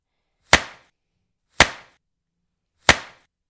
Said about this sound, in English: There. That's better. You're much cuter with my whip marks streaked across your skin.